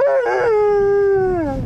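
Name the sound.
dog howling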